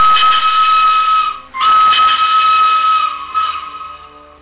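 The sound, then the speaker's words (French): A loud, shrill steam locomotive whistle blasts three times in quick succession, the first two long and the last trailing off, with a hissing rush of steam beneath each note. “renverse ta vapeur, nom de Dieu.”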